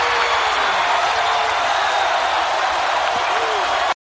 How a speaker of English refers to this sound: Duggan cleans house, and holy God, he is over. Just the crowd go crazy.